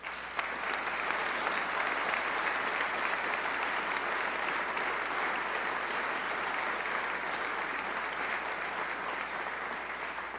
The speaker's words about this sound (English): And for establishing and prudently increasing the Rainy Day Fund, both Governor Walker and everyone here in this body deserves a round of applause.